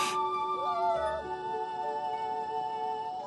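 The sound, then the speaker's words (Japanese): A harp seal pup, weighing about 8 kg and left alone after its mother went into the sea, calls with a drawn-out, wavering wail that rises and dips in pitch, fairly loud, over a steady low background hiss. “これがタテゴトアザラシの赤ちゃんです。”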